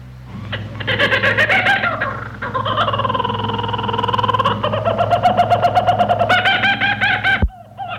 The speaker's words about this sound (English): let's try the kookaburra bird that you're going to hear from Radio Australia